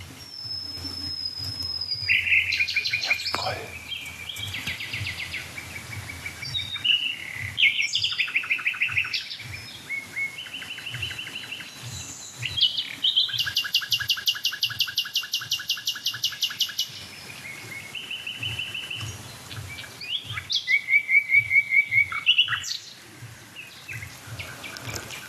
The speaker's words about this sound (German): Die da mit dem Düt, Düt, Düt, Düt. Das ist die Hausnachtigall.